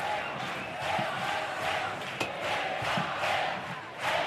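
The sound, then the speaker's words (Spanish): The packed audience of the Gran Teatro Falla roars its own rhythmic war cry to welcome the comparsa La Marea, the last group of the night, the loud massed shouting swelling and dipping in a steady chant-like pulse throughout, with a single sharp knock partway through. “Han lanzado su propio grito de guerra para recibir a esta última de la noche.”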